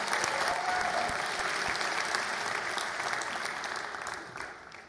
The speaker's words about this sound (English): Before I begin and get down to the good stuff, I want to start with a quick shout out to my family, who made the drive here today from Troy. So if you would join me in a round of applause for my family.